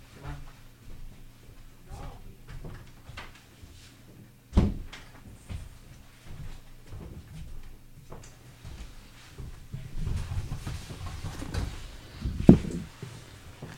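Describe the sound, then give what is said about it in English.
A door thuds shut with a single solid knock, followed later by a sharp click of a latch, amid faint room noise and background murmuring voices. “Let me just close that door.”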